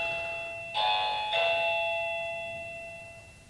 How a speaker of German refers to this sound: Es klingelt. Ich mache mal kurz auf, wir reden dann aber weiter.